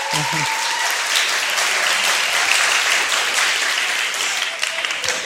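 A crowd breaks into sustained applause, a dense, steady wash of many hands clapping at an even loudness for about five seconds.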